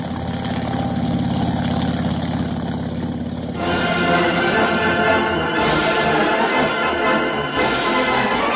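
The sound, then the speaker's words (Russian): A propeller aircraft engine drones steadily with a low, humming throb during a flight across the Arctic, then swells into a louder, rougher roar partway through and keeps running continuously, with no voices. “Летим как по писанному, мотор как часы, прочее соответственно.”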